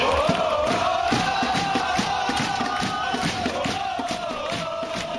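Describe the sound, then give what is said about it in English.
Crew soccer fans in the Nord deck stands roar continuously at a loud, steady level before a sold-out crowd, their massed voices forming a sustained chant-like drone with rhythmic pulses running through it. “And look at the Nord deck there. Crew faithful, ever so loud.”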